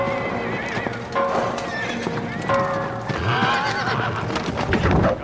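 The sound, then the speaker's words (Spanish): Several horses whinny and snort while hooves clip-clop steadily on hard ground as riders mount their horses, a busy, continuous bustle of animals moving about at fairly loud volume. “Los Rohirrim montan en sus caballos.”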